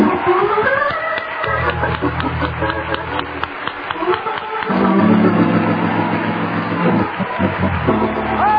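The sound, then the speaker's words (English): An audience gives the Lord a big hand clap for Holy Ghost revival, a dense, continuous burst of overlapping claps, loud throughout, with sustained low musical tones swelling underneath and fading in and out. “Now give the Lord a great big hand clap for Holy Ghost revival.”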